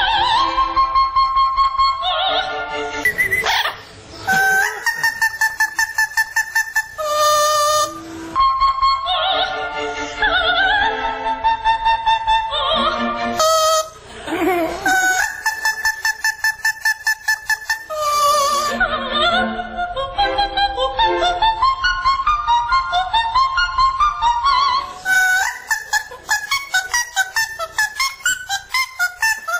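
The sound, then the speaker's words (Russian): The singing of Minino, a 15-year-old Amazon parrot, is spliced together with a soprano's recording of the same aria: loud, continuous melodic phrases with sustained high notes alternating with squawky, honking bird calls over about thirty seconds. “Во фрагменте, который мы сейчас услышим, пение Минино смонтировано с записью выдающейся исполнительницы этой партии”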